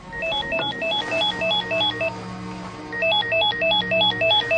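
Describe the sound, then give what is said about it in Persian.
A home telephone rings unanswered with a repeated electronic melodic trill in two bursts separated by a short pause, clear over a low steady hum, no voices present. “بابا من از سر شب همینطوری دارم بهت زنگ میزنم.”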